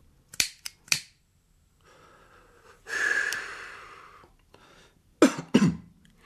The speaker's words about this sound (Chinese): 公安科长点上一支烟，吸了一口，随即又像两个断片的齿轮打滑那样咳嗽两声， 似乎提醒他别走了神儿。络腮胡心里明白，这声咳嗽是男人与男人之间的语言，他必须要回答的。